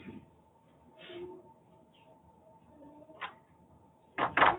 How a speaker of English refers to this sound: You want to close this door? Yeah, thanks.